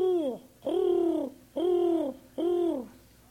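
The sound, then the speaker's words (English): Pigeons cooing, four soft, throaty coos in a steady rhythm, each a low rounded call lasting about half a second with brief pauses between. “Down around all these county seats, the courthouse buildings, you see a lot of pigeons.”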